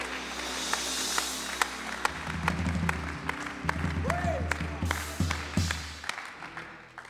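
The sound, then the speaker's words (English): A church audience claps together during a revival service in a steady, sustained round of applause, sharp individual claps standing out over the wash, with a low droning tone and faint voices underneath. “Clap your hands one more time all over this house.”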